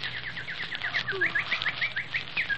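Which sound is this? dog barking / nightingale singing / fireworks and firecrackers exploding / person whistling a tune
nightingale singing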